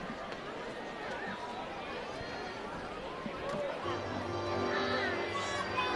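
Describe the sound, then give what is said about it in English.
Steady murmur of a large ballpark crowd on a hot Sunday afternoon at a baseball series finale, many overlapping voices blending into a continuous hum, with a low drone and slightly louder buzz in the second half. “Good crowd on hand, fighting off the heat.”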